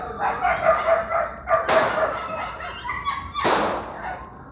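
Several hunting dogs bark and yelp continuously while two sharp, loud gunshots from hunters ring out about two seconds apart over the barking. No one speaks.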